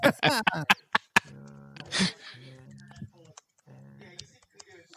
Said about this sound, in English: Listening to you fucking type is not doing it for me.